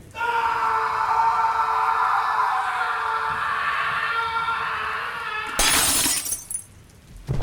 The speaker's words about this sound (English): It looks like someone smashed … over the head with something.